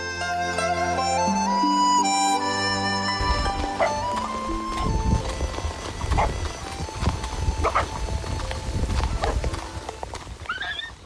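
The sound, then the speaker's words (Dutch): A horse's hooves clip-clop steadily on hard ground with a brief whinny as a horseman from Tafakung arrives to collect letters, after a few seconds of sustained tonal music fades out. No one speaks. “Ik zie dat de paardenman van Tafakung juist is aangekomen om de brieven naar het oosten en zo naar Europa af te halen.”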